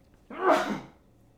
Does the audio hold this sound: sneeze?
yes